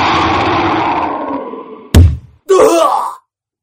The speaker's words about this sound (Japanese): 効果音希望。どんな効果音かといえば、そうだな。例えて言うなら、そう。虎が。虎が空気を切り裂いて、相手の喉を切り裂くような音かな。